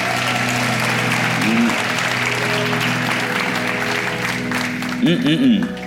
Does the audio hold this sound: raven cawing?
no